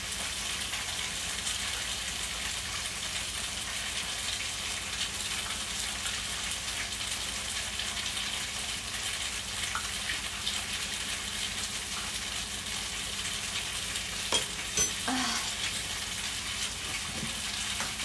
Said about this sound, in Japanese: この焼かれてる音うるさくないかしら。マイクちょっと離した方がいいか。